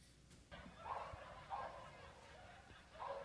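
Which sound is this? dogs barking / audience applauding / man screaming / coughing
dogs barking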